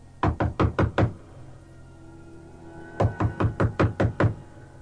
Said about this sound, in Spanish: Sin pensarlo dos veces, subí y llamé a la puerta.